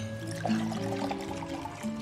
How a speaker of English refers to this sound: Some wine, Betty. Oh, thought you'd never ask. Betty takes the bottle and pours.